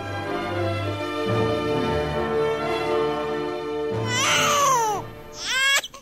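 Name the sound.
newborn baby crying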